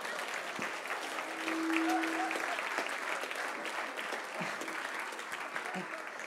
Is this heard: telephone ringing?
no